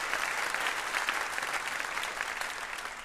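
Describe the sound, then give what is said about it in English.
A steady round of applause from an Ask Me Another audience for guest Piper Kerman, dense overlapping clapping at an even, sustained loudness with no voices, holding for about three seconds before easing slightly at the end. “A round of applause for Piper Kerman.”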